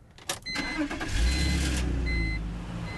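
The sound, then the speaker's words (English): A car engine cranks and catches after the key is put in, then settles into a steady low rumble as the car is driven away, with a few faint high electronic beeps over the running motor. “And then you just pop it in and drive away.”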